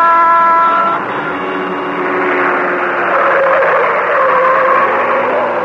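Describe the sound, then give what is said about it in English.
A fast car, the Green Hornet's Black Beauty, roars through city streets at speed, its engine a loud, continuous rush with a steady pitch that shifts slightly as it races on. No one speaks. “Like a glittering black comet in the darkness, the car of the Green Hornet whipped through the city streets.”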